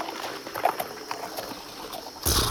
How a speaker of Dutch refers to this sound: En moet je horen, ze begroeten elkaar. Dat geklapper met hun snavels, dat is eigenlijk jabiru-taal voor... Hé, schatje, ik heb je gemist.